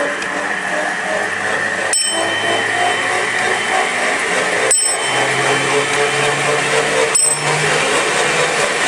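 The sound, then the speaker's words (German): A hand-cranked machine whirs and grinds steadily as it is cranked up to 20,000 revolutions, while a small bell rings out three times at intervals of roughly two and a half seconds; the bell stops striking once the target speed is reached. “Wenn die Glocke nicht mehr schlägt, dann habe ich die Drehzahl erreicht.”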